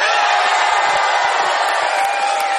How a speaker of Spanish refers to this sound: Es una alegría estar aquí en el Teatro Auditorium de Mar del Plata con mucha, mucha gente amiga que nos saluda, que nos da cariño, que grita incluso de la siguiente manera.